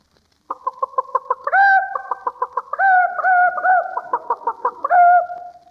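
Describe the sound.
A man imitates a chicken clucking, rapid staccato clucks breaking into drawn-out, wavering squawks, repeated in a few rhythmic bursts, loud and alone.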